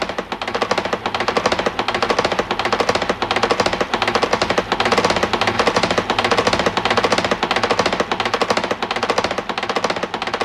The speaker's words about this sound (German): Es ist 12 Uhr. Sie hören die Karfreitagsratschen aus Seckau.